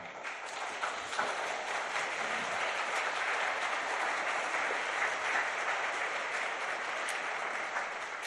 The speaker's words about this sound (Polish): Niech Pan Bóg będzie uwielbiony we wszystkim, także w tych oklaskach. Bardzo wam za nie dziękuję.